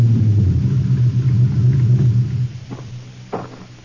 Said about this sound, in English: It was just after dark when I drove up behind Lieutenant Ryan's car.